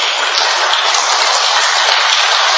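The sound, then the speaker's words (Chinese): A crowd of people clapping their hands together as a group exercise meant to stimulate the meridians in the palms, in a dense, steady patter that stays evenly loud throughout, with no voices over it. “吓，系啦，试下拍手掌。”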